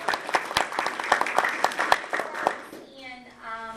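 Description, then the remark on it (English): An audience claps for a school's Teacher of the Year in a dense, irregular burst of applause that lasts a few seconds, then quickly dies away into a faint, steady tonal hum. “Let's clap for her. We'll clap for her.”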